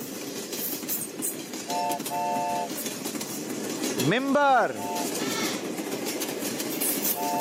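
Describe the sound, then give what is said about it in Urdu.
A train sound effect in a quiz game as the train's brake is released: steady rumbling and clattering with a few short horn toots and one louder, rising-and-falling horn blast in the middle; a voice briefly speaks over it. “مدرسۃ المدینہ والے آ چکے ہیں جناب ٹرین کے بریک پر, اب ٹرین آپ کے حوالے ہے. بریک چھوڑیے.”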